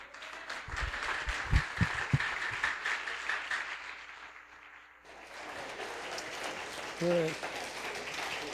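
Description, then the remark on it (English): A crowd applauds the students and staff in an evening event, a dense, steady wash of clapping that briefly dips around midway and then resumes at full strength, with a few muffled voices and cheers mixed in. “Let's give one more round of applause to the students and the staff.”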